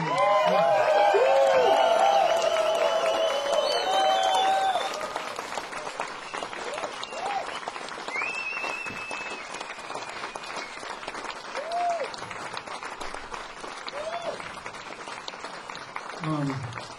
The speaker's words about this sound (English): Round of applause, this band, these guys, come on.